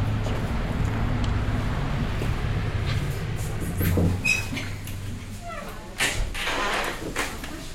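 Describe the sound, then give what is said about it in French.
Heavy trucks arriving to supply a sugar beet factory, about 600 a day, rumble and idle with a steady low engine drone, broken by a few sharp hissing bursts like air brakes releasing, amid general outdoor industrial noise. “Ce sont donc environ 600 camions par jour qui viennent alimenter la sucrerie.”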